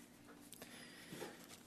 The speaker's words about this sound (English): Here we see in Ezekiel chapter 36, verse 29, 32. Actually, why don't you turn there, if you don't mind. I wouldn't mind hearing a few pages turn.